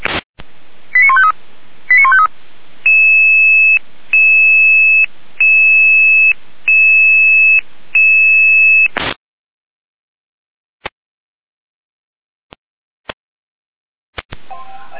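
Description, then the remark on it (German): A rapid burst of short electronic tone blips, then five evenly spaced steady two-tone pulses of a fire brigade dispatch radio alert for Florian Umverstedt, a traffic accident with leaking fluids at the town exit toward Weimar, ending abruptly before a few faint clicks and static crackles. “Leiste die Alarmierung.”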